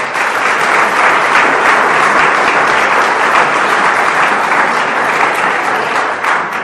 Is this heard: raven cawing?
no